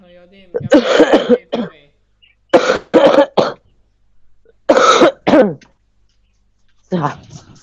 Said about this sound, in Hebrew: וואו, תקשיב שיעול. תקשיבו השיעולים. זה ממש כואב.